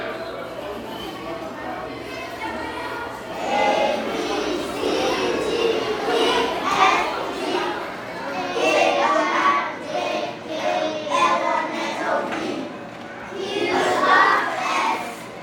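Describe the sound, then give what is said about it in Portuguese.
A lively crowd of school children playing, with overlapping chatter, high-pitched shouts and calls rising and falling continuously over a steady background hum. “Qual é o som da escola?”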